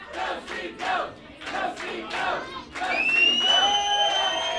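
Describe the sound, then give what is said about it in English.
Supporters of Governor Steve Bullock cheer and shout in rhythmic bursts at an election rally in the Great Northern Hotel in Helena, then swell into sustained loud cheering with high whoops and whistles rising above the roar. “His supporters gathered in Helena when the news broke, again rallying in the Great Northern Hotel where they had waited for the results to come in the night before.”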